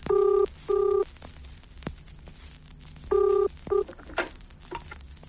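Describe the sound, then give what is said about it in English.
A telephone rings during a call to a bookmaker, a loud double ring repeated twice with a gap between each pair of short electronic bursts, and no one speaking. “Take this phone ringing now.”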